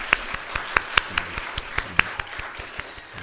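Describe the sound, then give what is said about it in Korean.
A church audience applauds in thanks to God at a baptism service, steady crowd clapping with sharper individual claps popping out for a few seconds, with no one talking. “하나님께 감사의 박수를 한번 드릴까요?”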